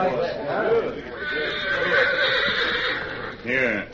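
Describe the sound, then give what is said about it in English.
A horse, Victor, lets out a loud, drawn-out whinny with a shaky, quavering pitch, followed by a shorter second neigh at the end. “Here your horse, then.”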